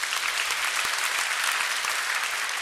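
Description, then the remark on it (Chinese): An audience claps in praise to God, a dense wash of many hands that stays at an even loudness for the whole stretch, with no voices standing out. “我们拍手给上帝。”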